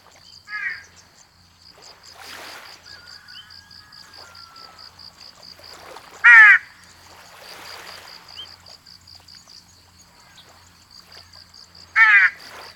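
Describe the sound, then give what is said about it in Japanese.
A large-billed crow of the Ishigaki subspecies (Osa-hashibuto-garasu) gives three loud, harsh caws spaced several seconds apart, standing out over a steady, high-pitched chirring of insects in the background. “南の島でのオサハシブトガラスとの出会いは、新種の発見の喜びがあったかもしれません。”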